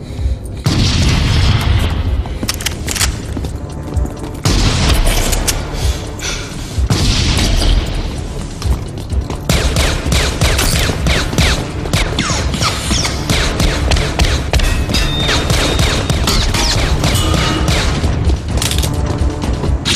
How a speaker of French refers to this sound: Leur seule protection, c'est l'autre robot, le T-800 joué par Schwarzenegger, qui tire au fusil à pompe dans le T-1000 lorsqu'il ouvre la porte de l'ascenseur.